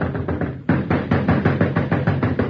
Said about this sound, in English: Now you step up and rap on the door. And when the story teller answers, he'll get a big surprise. Now you'll rap real hard.